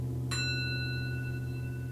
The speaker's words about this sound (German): Die kenne ich früher mal von meiner Grundschullehrerin, wenn es zu laut wurde. Die hat dann immer die Klangschale geklangt. Das ist der Gong für unterwegs.